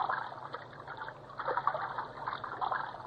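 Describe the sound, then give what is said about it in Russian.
Soft, continuous sloshing of sea water with small irregular splashes and trickles around fishermen's cast nets and floats, moderately quiet, no voices. “В море что-то заплескалось, поплавки дрогнули.”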